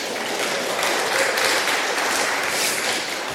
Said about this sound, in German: Marco, vielen Dank für die Assistenz. Ein Applaus an Marco hier.